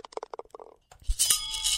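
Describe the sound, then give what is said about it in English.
A golf ball is putted into the hole: a run of quick, light clicks slows and fades, then a dull thud lands and a bright, hissing wash with faint ringing tones follows. “That's a putt. That's a ball going in the hole.”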